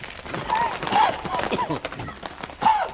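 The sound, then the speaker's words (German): Bricks are worked loose and pulled from the upper edge of a wall in front of a burial chamber, with irregular scraping, grinding and hard clunks, a few sharper knocks standing out along the way. “Lösen Sie die Ziegel aus der Wand.”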